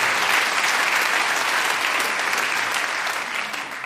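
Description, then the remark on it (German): A live audience at the Frankfurter Hof in Mainz claps for itself steadily for a few seconds, a dense wash of many hands with no voices over it, easing off slightly toward the end. “Da können wir mal einmal klatschen für sich selber.”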